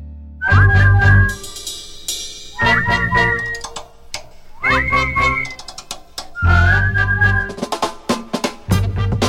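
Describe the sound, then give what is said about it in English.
Several people whistle a bright, catchy theme tune together in four repeated phrases, backed by a steady, punchy musical beat. The whistling is loud, with no talking. “Hey, let's whistle it together.”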